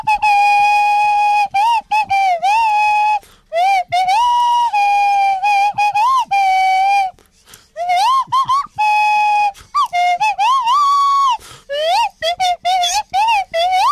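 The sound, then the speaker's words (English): A swanny whistle plays a bright Christmas tune, loud, breathy notes sliding smoothly between pitches in short phrases, with brief pauses between them and no voices. “on the album, are they the acoustic swanny whistle only, or do they have the backing track as well?”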